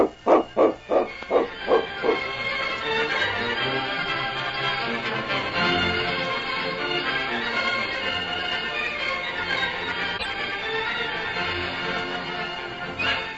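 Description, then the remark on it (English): A dog, King, Sergeant Preston's dog in a radio drama, barks several times in a quick, steady series, loud, before a full swell of orchestral music takes over and continues to the end. “Sergeant Preston, if you'd consider selling that dog of yours...”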